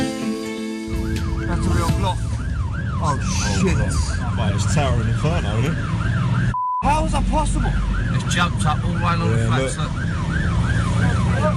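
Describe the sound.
A fire engine siren wails loudly and continuously in rising and falling sweeps as firefighters arrive at a fire in a residential tower block, Grenfell Tower in London, with heavy engine rumble beneath and a brief cut midway; a few startled voices speak over it.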